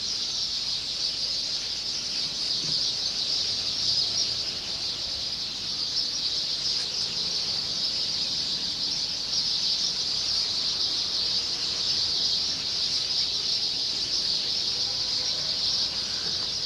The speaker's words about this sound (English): They come to this tree. And when they do, they sing. They are finches, I believe. But anyway, listen to this. I'm standing right below them.